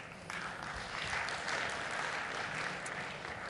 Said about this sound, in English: You can applaud. That's okay. I accept them. Thank you.